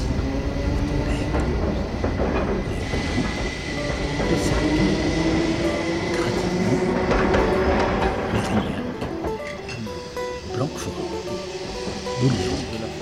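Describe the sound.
A tram rolls steadily along its rails between Bègles and Bordeaux with a continuous rumble, metallic humming tones and occasional brief wheel squeaks, while passengers' indistinct voices whisper and laugh faintly beneath it.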